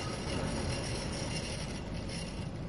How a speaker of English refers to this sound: And the tram pulled into the station.